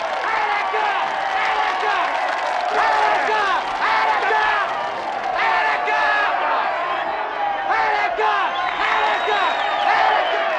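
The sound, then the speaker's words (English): A large crowd roars and cheers continuously, many voices shouting "Attica!" together in loud, surging waves with a rough chanting rhythm, incited by Al Pacino in a scene from the 1975 film Dog Day Afternoon. “That was Al Pacino inciting the crowd in the most memorable scene from the 1975 film Dog Day Afternoon, which is now 50 years old.”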